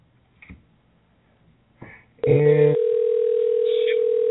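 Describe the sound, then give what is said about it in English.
A couple of soft handset clicks, then a loud, steady telephone dial tone, heard while calling someone back, that begins abruptly and hums on unbroken for about two seconds until the end. “So, let me do this. We'll call her back.”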